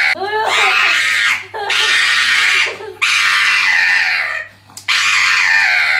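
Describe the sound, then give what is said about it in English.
A pug screams in four long, loud, high-pitched shrieks while being held up and having its nails trimmed, with only brief breaths between them and no talking. “Okay, he's being held up and being trimmed right now.”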